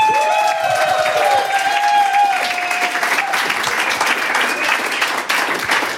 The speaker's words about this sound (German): Würde ich so einen Applaus einmal von meiner Klasse bekommen, das wäre großartig, würde viel mehr Spaß machen.